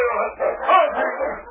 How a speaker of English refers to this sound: That dog, him mad.